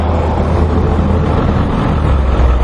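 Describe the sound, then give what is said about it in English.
A steady, loud low-pitched engine rumble from a truck on the street, with constant traffic-like noise filling the background and no pauses or talking. “Can't watch yourself going around this truck.”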